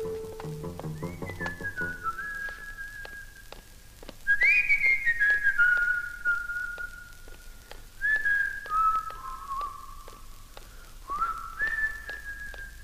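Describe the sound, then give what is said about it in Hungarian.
Someone whistles a slow melody alone, with long sustained notes that slide and waver, in several phrases separated by short pauses, clear. “Fütyül is. Fütyül.”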